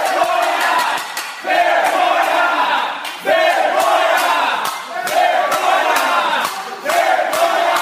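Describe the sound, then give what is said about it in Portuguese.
An audience in a city council chamber protests after the council approves a tax exemption project by 10 votes to 4: a crowd shouts and chants, loud and sustained, with rising waves of voices surging every couple of seconds and sharp claps or bangs scattered through the din. “Houve manifestação na plateia.”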